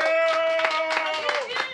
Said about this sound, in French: On l'applaudit, on l'encourage un petit coup dans la salle.